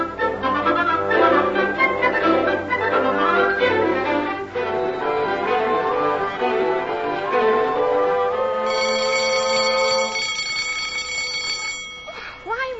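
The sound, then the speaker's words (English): A school bell rings out loud and steady for a few seconds, marking the end of social period and beginning of study period, a sustained metallic clanging that cuts through a dense, busy background of sound before trailing off. “School have bells that make jump out of your skin. Oh, what's that one for, Tessa? End of social period, beginning of study period.”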